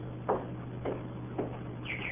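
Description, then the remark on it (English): A canary named Bertie chirps faintly: three short, evenly spaced chirps followed by a couple of quick higher tweets, heard over a steady low background hum with no one talking. “It's a canary. Oh, that's the bird we heard chirping in here, remember?”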